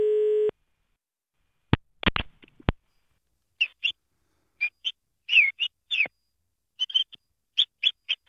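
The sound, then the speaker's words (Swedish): A 5-year-old boy from Skoghall imitates parrot calls with a quick series of short, high, squawky chirps in an uneven rhythm, after a brief beep and a few sharp clicks. “Pratar du på papegojspråk nu?”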